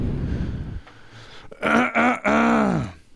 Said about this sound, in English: I'm breathing awfully hard over there, my friend.